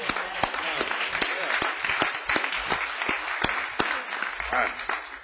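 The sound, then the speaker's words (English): A crowd applauds the choir steadily, many hands clapping in a dense, continuous patter with sharper individual claps standing out, sustained at a fairly loud level for several seconds. “Can we just clap it up for the choir one more time?”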